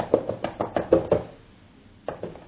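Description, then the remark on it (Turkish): A person taps in imitation of typing on a computer keyboard: a quick run of about seven light taps in an uneven rhythm, then a pause and a few more taps; short, dry and fairly crisp, with no talking. “Bilgisayarın karşısına geçtin. Klavyede.”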